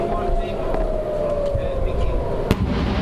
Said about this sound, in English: In Tel Aviv today, air raid sirens and explosions.